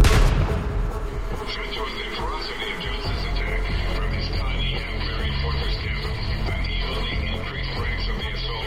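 Rifle and shotgun fire from Johnson shooting out of a fortified cabin at a posse opens with a loud blast, then settles into a dense, continuous rumble of overlapping shots and booms that carries on steadily to the end.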